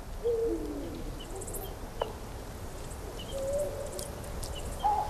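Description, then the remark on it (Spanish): Eurasian eagle-owls hoot a few times in open countryside, recorded while waiting around 9 o'clock, the calls short and spaced out over a steady hiss of night insects with no one talking. “estaba esperando hacia las 9 y grabando, no había linces, pero el campo estaba lleno de búhos reales.”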